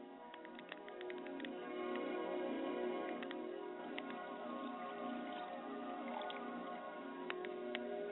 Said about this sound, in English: Join me as I pour a libation and a glass of water for my Mother Spirit. I say, Ashe.